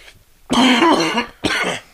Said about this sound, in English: Now I'm the one coughing.